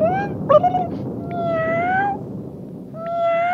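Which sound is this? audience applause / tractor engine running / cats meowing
cats meowing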